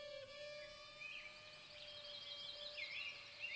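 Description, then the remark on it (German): A thin, high-pitched mosquito whine drones steadily throughout, its pitch wavering slightly as if drifting, fairly quiet and with no voices present. “Eine Mücke?”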